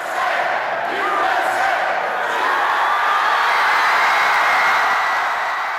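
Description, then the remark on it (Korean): A large crowd in the United States, gathered to watch the Women's World Cup final, cheers and roars continuously at the US win, the first in 16 years, a dense wash of shouting voices holding steady and loud for several seconds with scattered higher whoops and yells rising above it. “16년 만에 여자 월드컵 우승 소식에 사람들은 환호를 지르며 기쁨을 감추지 못했는데요.”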